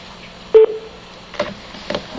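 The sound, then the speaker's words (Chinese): A single short, loud telephone keypad beep, a caller pressing the star key to join a call-in program, sounds near the start, followed by a couple of fainter, muffled clicks or bursts on an otherwise quiet phone line. No one speaks. “那请您按星号，我们会依你的顺序啊接听您的电话。”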